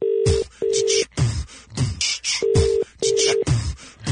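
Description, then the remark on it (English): A telephone ringing tone repeats in steady double bursts through the earpiece, mixed with sharp clicks and thuds like buttons being pressed on the phone, as a call is placed to Starlings, a toy shop in Bury St. Edmunds. No one speaks. “So, this is a real toy shop. They're in Bury St. Edmunds. Let's phone them now.”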